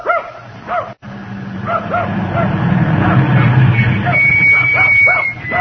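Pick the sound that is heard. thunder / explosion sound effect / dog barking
dog barking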